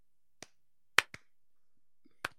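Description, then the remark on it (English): An 80s-style slow clap: four sharp, bright smacks spread over a couple of seconds, two of them in quick succession, with silence in between and no talking. “So slow 80s clap.”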